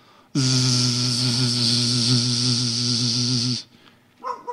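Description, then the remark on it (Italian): A loud, steady buzzing hum, as heard in Gaza, starts abruptly, holds at an even pitch for about three seconds, then cuts off, leaving faint background noise and a brief stir at the end. “Allora, ascoltate questo silenzio, gli uccellini, i bambini in sottofondo, e pensate che a Gaza questo non è possibile, e almeno sentirete sicuramente un ronzio.”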